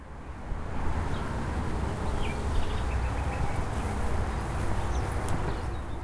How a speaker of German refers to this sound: Und nun Autobahn.